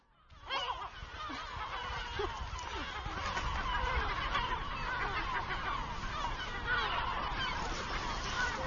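A dense, noisy colony of gulls calls nonstop, with many overlapping squawks and cries layered loud from start to finish, plus a low rumble underneath.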